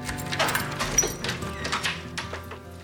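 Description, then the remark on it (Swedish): Keys jingle and scrape in a lock, with a few sharp metallic clicks as the door to an apartment is unlocked, over a steady low hum in the background. “Nu låser Henry upp dörren till sin våning.”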